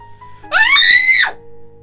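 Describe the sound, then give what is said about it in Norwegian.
A single loud, piercing scream from a person, rising sharply in pitch and held for about three quarters of a second before cutting off. “Hva er det du hyler sånn for?”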